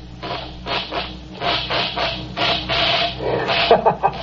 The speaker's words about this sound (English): Show us how this mechanical mouse catcher operates.